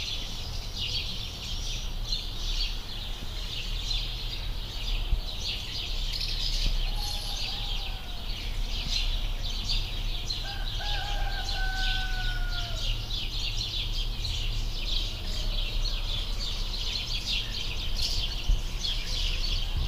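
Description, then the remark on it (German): A steady dawn chorus of many birds chirping and twittering shortly before 5 a.m., with a few longer whistled calls standing out, over a low background hum and no talking. “Ja, das war ein bisschen Vogelgezwitscher.”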